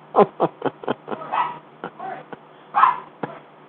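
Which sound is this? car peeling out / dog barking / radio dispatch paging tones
dog barking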